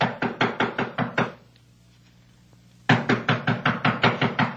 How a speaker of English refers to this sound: Well, it's like this. I've been knocking on the door, and she doesn't answer.